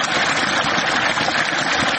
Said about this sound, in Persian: این صدای آب روان را شاید مردم در مناطق جنوب و جنوب غرب افغانستان کمتر بشنوند، زیرا سطح آب پایین آمده و مشکلات ناشی از کمبود آب در بسیاری مناطق افزایش یافته است.